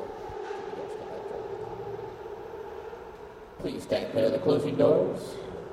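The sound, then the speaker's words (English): A New York City subway G train rumbles steadily, then grows louder and harsher near the end as it pulls in, with metallic squealing tones over the roar and faint voices in the background. “You're now boarding the ghost train.”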